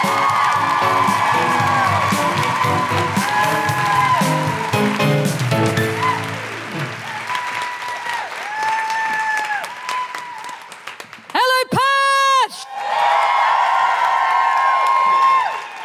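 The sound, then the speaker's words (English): A concert audience claps loudly and steadily to welcome a performer at the close of the show's first half, while many voices whoop and cheer over it, with rising and falling shouts throughout and one especially piercing, high whoop near the end. “To close the first half and leave you on a real high, put your hands together and make incredible woohooing noises for the still mildly jet-lagged but incredibly energised”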